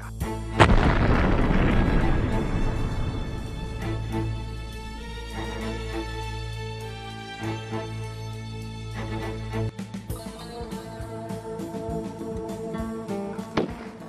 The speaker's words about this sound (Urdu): آخر میں جارج حبش مسافروں کو آزاد کرنے پر راضی ہو گیا, لیکن اس نے جہازوں کو دھماکے سے اڑا دیا.